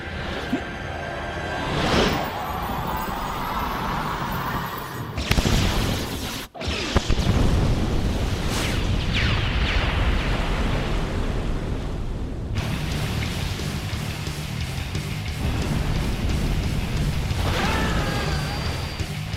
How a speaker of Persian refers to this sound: ما انفجار رو دیدیم. از آقای پرایس راجبش بپرسین.